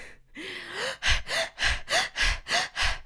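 Rapid, shallow open-mouth panting, fairly loud: an initial drawn-in gasp followed by about seven quick, even, rhythmic breaths, from a person standing and doing a hyperventilation exercise, breathing deep and fast through the mouth, high in the chest, like after running up stairs.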